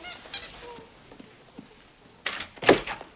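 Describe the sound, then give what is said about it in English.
After a quiet stretch with faint background sounds, a door is opened with a couple of sharp clunks from the latch and handle, followed by a brief rattle. “then runs to the door.”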